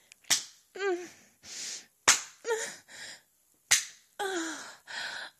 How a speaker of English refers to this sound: Only for Daddy would I slap my pussy like that.